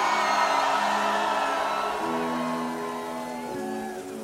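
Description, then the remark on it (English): A huge crowd at the Tomorrowland festival screams and roars on the host's count, continuously for several seconds and loud, with sustained musical tones running underneath and the noise easing off slightly toward the end. “One more time, Tomorrowland! 1, 2, 3, scream!”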